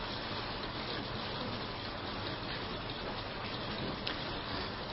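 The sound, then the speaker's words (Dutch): Steady, dense heavy rainfall hisses continuously for the whole stretch, a broad even wash of drops with no voices, loud, pouring down outside while people sit indoors. “Het is wel goed dat we binnen zitten, broeders en zusters, of niet? Ja, of je moet van regen houden natuurlijk, dat kan.”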